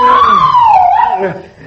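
A woman screams, one long sustained high-pitched cry that wavers and dips slightly in pitch before trailing off, loud and close, with no talking over it.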